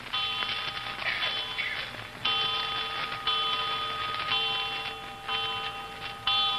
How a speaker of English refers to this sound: Seven times. Did you count the chimes?